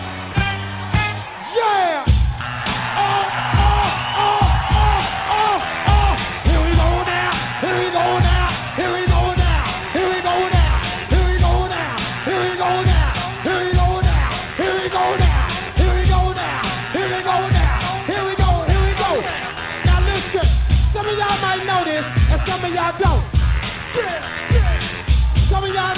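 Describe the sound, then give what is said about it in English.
A crowd at Bahama Bay in Philadelphia, asked to make noise on a count of three, yells and whoops without letup for the whole stretch, the loud clamor riding over a steady, thumping low beat with sustained tones running through it. “At the count of three, I want everybody in the place to be to make some noise if you're down with me.”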